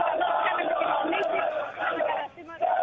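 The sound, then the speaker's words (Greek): A large crowd of fans at Pasalimani in Piraeus, gathered at cafés with TV screens before an Olympiacos match, sings and cheers together in a loud, continuous roar of many voices, with a brief dip near the end before the chanting surges back. “Ακούτε το κλίμα, πανηγύρι από τώρα. Πανηγύρι τραγούδι.”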